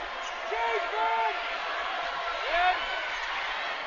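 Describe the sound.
The Central home crowd at a basketball game against Clovis North chants together in a steady roar, voices rising and falling in unison, with faint sneaker squeaks and echoing gym noise underneath.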